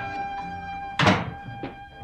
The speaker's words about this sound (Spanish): Se abrió la puerta.